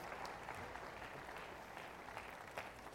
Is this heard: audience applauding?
yes